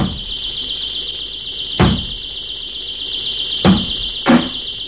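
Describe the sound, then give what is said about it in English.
Three heavy, forceful bangs on a door, spaced irregularly, with a shrill warbling alarm tone sounding continuously underneath. No one speaks. “Sounds like somebody's breaking down your door.”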